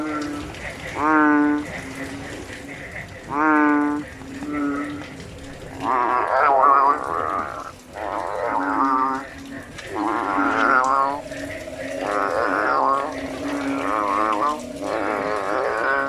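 Loud, deep bellowing calls from two bellowing frogs fighting, repeated in drawn-out groaning bursts that overlap and alternate as the two call back and forth, with no talking.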